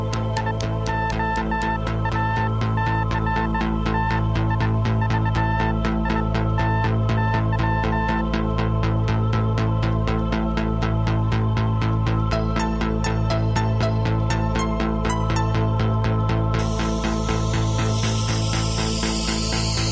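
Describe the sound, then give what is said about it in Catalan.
Short electronic beeps tap out the word "radioactivity" in Morse code, dots and dashes riding over a steady, throbbing synthesizer pulse and dense electronic drones, with no voices present. “I això que sentirem ara és la paraula radioactivitat transmesa en codi Morse.”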